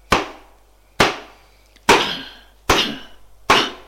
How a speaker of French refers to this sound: Mais d'un geste, elle ouvre la porte, le pousse dehors et ferme la porte. Il tape à la porte.